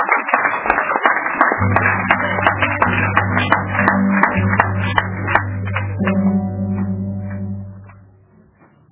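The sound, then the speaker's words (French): A crowd claps for the Lord, a dense burst of applause over a low sustained hum, the clapping thinning out and fading to near silence by the end. “Applaudissez d'abord pour le Seigneur.”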